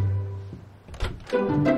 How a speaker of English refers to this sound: She paces back and forth, opens her hands at her sides, then strides to a closed door. Simon opens the door.